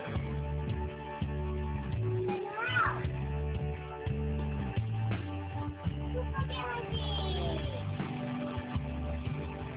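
A cat meows a couple of times, drawn-out rising and falling cries spaced a few seconds apart, set against a steady, pulsing low hum or music-like background.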